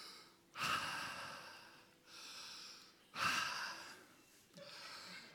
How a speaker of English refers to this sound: Can I listen to your breathing? Sure, yeah. Check that. Okay. So I have to breathe in. Deep breath.